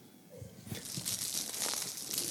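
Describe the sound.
A dense, continuous crackling and crinkling noise with scattered soft pops underneath, produced by someone imitating the crackle of old shellac records rather than a real record.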